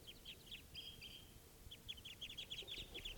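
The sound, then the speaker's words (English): A flock of about five birds, which look like males, chirping together, many short high-pitched calls overlapping in quick, busy bursts, with a brief lull midway before the chatter picks up again over a low, steady rumble. “There's more than one bird there.”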